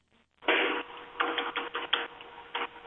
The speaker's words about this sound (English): I don't know what you're typing, but it's scaring me.